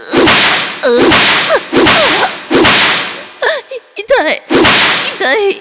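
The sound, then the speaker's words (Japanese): Loud whip lashes strike a person in a steady series, about six sharp cracks roughly a second apart, each followed by a vocal cry or whimper between the blows. “もっとムチで叩いて。”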